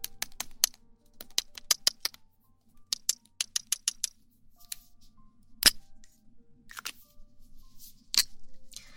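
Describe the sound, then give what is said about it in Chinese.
A small double-ended marker pen writes on paper, its tip making quick, crisp taps in bursts, mixed with a few short scratchy strokes, with no voices. “先做一下写字的声音。”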